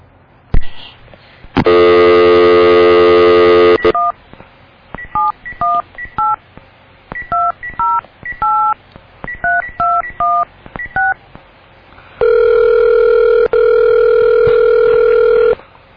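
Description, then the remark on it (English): A steady dial tone plays, then a quick run of about a dozen two-tone keypad beeps as a number is punched in to call a writer at his day job in the FIT financial aid office, followed by the long, even purr of the line ringing. “So we're going to give him a call.”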